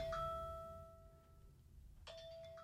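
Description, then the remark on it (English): A kitchen timer chimes twice, about two seconds apart, each bright ringing tone lingering and fading, heard fairly quietly over a low background rumble with no talking. “Now, that timer, folks, I don't know how much was recorded”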